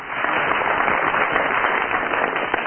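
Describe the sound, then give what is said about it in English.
Steady applause from a studio audience for Barry Cryer, judging how well he has tied his tie: dense crackling claps at an even loudness throughout, with no voices over it. “First of all, will you give your applause or otherwise for Barry Cryer?”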